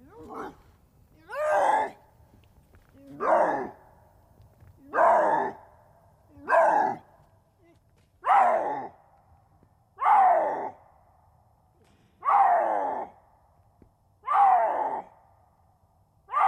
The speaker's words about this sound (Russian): Кстати, у меня тоже в распоряжении есть еще и брачные крики рыси. Чтобы мы сравнили. Чтобы мы сравнили, то есть другой представитель семейства кошачьих. Давайте послушаем.